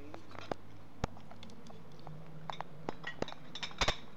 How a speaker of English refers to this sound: This high quality audio was recorded as I carried a tray of dishes with a microphone in one hand over to the bar area.